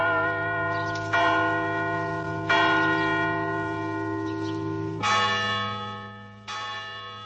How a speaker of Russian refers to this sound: ударяет колокол над головой крупными ударами, но подменный, жестяные какие-то удары вместо полнозвучных, глубоких. Колокол звонит, объявляя крестный ход.